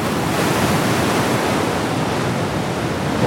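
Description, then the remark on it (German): Steady roar of Atlantic ocean surf with gusting wind across a microphone, a dense, continuous wash of noise filling the whole clip, with no voices, on the coast along the Slearhead Drive at the tip of the Dingle Peninsula, Ireland. “So klingt es am Ende der Welt. Oder zumindest am Ende Irlands.”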